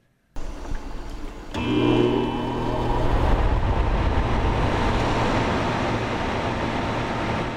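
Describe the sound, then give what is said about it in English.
An air conditioner starts up: a sudden rush of noise, then a click as the compressor kicks in with a low hum, settling into a loud, steady whooshing roar. No one speaks. “That's a sound common to summer, an air conditioner firing up.”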